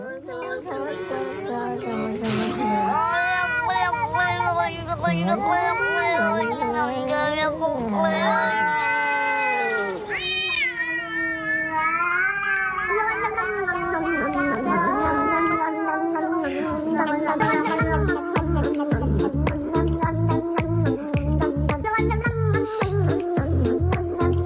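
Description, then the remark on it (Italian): A long run of loud, drawn-out cat meows that rise and fall in pitch, continuing almost without pause, with a rhythmic low thumping joining in near the end. “Infatti, sebbene tutte le serie di Catflix siano tradotte e sottotitolate, se volete apprezzare i contenuti in lingua originale, e so che voi amate molto farlo, sì.”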